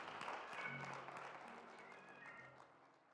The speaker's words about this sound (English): Clap those hands.